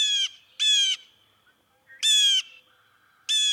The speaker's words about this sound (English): One denizen of Brooklyn's trees is the strikingly beautiful blue jay.